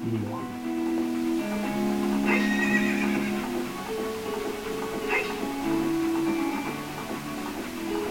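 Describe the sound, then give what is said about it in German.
A horse whinnies with drawn-out, wavering neighs while hooves clip-clop steadily underneath, fairly loud throughout, with sharper hoof strikes standing out now and then. “Muss das Pferd auch ein Gerudo Pass haben?”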